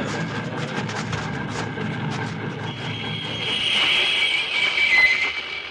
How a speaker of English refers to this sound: All right, come on. Stop that locomotive.